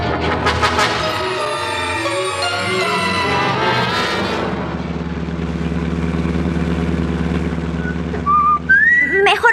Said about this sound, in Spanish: Deja de silbar, papá.